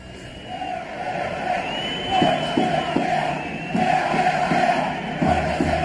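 football crowd chanting

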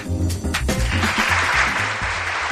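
applause

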